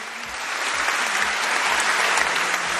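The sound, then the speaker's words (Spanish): Sustained, dense applause from a large crowd, steady and loud throughout with many hands clapping at once, a standing ovation for the Real Madrid coach on being made an honorary doctor at the University of Parma, Italy. “Ovación cerrada para el míster del Real Madrid y, por supuesto, él tan contento con que a partir de ahora se le pueda llamar doctor.”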